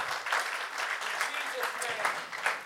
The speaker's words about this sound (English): Somebody clap your hands for a moment with faith for the kingdom of God.